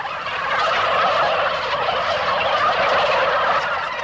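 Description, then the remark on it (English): A flock of white turkeys on a family turkey farm gobbles nonstop, their overlapping warbling calls merging into a loud, steady chorus that fills the whole stretch with no voices over it. “He's 21 and runs his family's turkey farm.”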